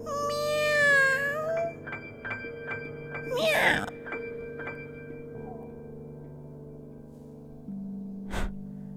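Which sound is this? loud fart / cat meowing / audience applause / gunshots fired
cat meowing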